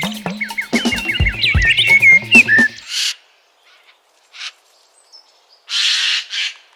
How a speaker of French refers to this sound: Parlons d'un oiseau aujourd'hui particulièrement commun dans nos forêts, le jai des chênes. De la famille des corvidés, comme le corbeau ou la pie, mais bien plus joli.